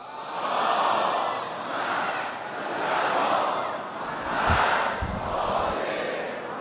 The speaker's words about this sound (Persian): صلوات بلند.